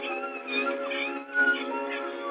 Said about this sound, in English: And a man stops, sees his little dog, needs help. That the mother's anxious. The puppy's crying.